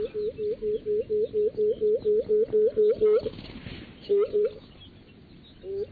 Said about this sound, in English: It's a really incredible thing to see this bird floating towards you, uttering this loud, resonant hooting sound.